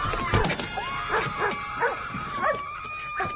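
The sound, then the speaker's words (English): A dog, Shaggy, gives a rapid string of short, yippy barks mixed with high whimpering whines, fairly loud, with a steady background hum beneath. “Oh, who's a cute doggy?”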